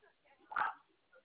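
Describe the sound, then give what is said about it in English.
A single sharp bark from a pet dog bursts out midway, loud, with a muffled, phone-like quality and quiet background murmur around it. “Hush, pet dog.”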